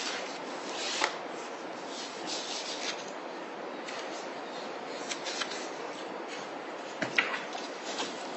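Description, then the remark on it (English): Paper pages are frantically flipped, rustling continuously in a steady shuffling with a few sharper crinkles and snaps standing out along the way. “Before you begin, I'm frantically flipping paper here, but maybe you have the answer.”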